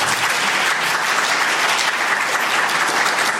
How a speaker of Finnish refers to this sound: Tähän väliin otetaan aplodit